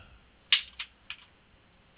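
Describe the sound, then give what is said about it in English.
Cards being shuffled for an angel card reading: three or four short, crisp papery snaps at uneven intervals, fairly quiet, over a faint low hum with no talking. “Let's go ahead, and I'm going to shuffle them here”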